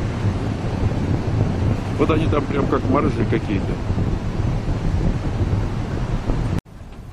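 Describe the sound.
A steady, loud roar of wind and breaking ocean waves at a marina where small boats are parked and many people are out on the water, with gusts buffeting the microphone; a man speaks briefly over it before the sound abruptly cuts near the end.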